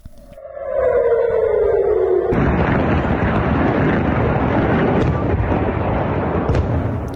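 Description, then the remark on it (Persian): A falling, whistle-like tone gives way abruptly to a loud, sustained roaring rumble: at least one missile fired from Gaza exploding around Ben Gurion Airport in Tel Aviv, Israel, on a Monday at midday, in rough video footage shared on social media. No voices are present. “به دنبال ادامه حملات موشکی از سمت غزه به اسرائیل، ظهر روز دوشنبه صدای آژیر در مناطق مختلفی از شهر تل آویو به گوش رسید و ویدیوهایی در شبکه‌های اجتماعی از انفجار دست کم یک موشک در اطراف فرودگاه بن گوریون این شهر منتشر شد.”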